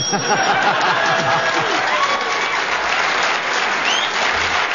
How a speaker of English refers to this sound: Well... deserved round of applause,